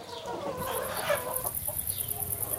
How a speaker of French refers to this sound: Les épluchures de légumes, je les donne aux poules qui sont dans le poulailler ici. Les poules me donnent des œufs et aussi de la fiente que je peux mettre de temps en temps dans le poulailler.